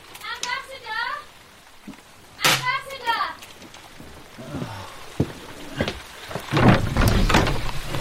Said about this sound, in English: We could complain about the rain together.